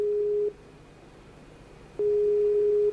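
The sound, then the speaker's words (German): A phone's ringing tone heard by the caller: a steady, mid-pitched tone that sounds briefly, pauses for about a second and a half, then sounds again. Fairly quiet, with no voices. “Ich kann ihn ja mal durchrufen. Mal gucken, vielleicht ist er mittlerweile da, weil der war gerade mit seinem Baby am Start.”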